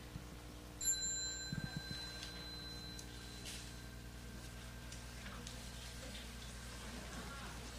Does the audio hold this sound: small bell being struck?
yes